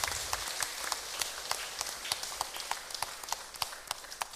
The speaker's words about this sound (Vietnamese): Hãy cho một tràng vỗ tay thật lớn để tán dương.